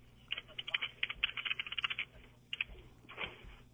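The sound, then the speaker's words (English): Rapid, irregular clicking of keys on a computer keyboard, fairly quiet, in bursts with a short pause before a final flurry. A woman is typing. “She's typing away.”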